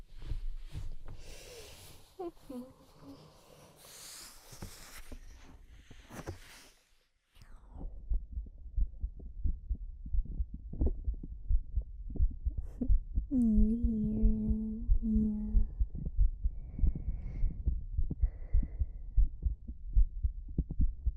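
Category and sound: human body sound, heartbeat heard close up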